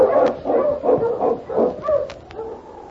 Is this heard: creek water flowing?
no